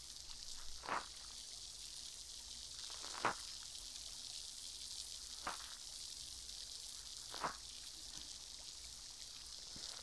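Steady soft fizzing hiss from the tip of a soaked cotton swab, punctuated by four brief crackling pops spaced a couple of seconds apart, with no talking.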